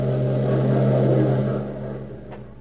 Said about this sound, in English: And at this same time, Larry Noble is driving from his Rosehaven, Long Island home to the theater in New York, where he is currently starred in a hit play.